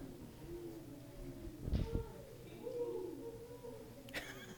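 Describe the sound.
A person imitates owl hooting with soft, low, breathy hoots drawn out over a few seconds, amid light background murmur and a brief thump and sharp click.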